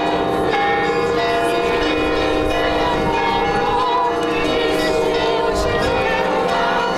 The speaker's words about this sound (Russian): И вот у храма собираются и другие крестоходцы. Колокольный звон и колонна отправляется в путь.